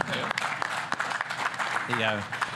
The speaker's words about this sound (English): And I've got some people here from Illuminic that can also give a round of applause for Illuminic.